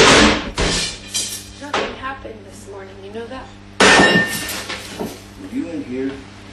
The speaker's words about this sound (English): So over the weekend, a video was leaked online showing Johnny banging kitchen cabinets, hurling a glass and a wine bottle across the kitchen, going absolutely berserk at Amber Heard. Listen to this.